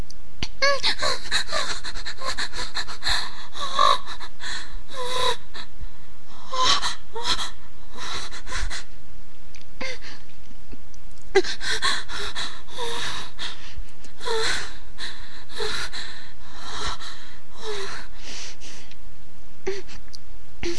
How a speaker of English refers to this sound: I can hear the labored breathing behind me, and how he thrusts.